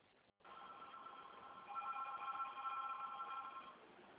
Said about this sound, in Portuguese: Espera um pouquinho. Espera um pouquinho agora que é um telefone.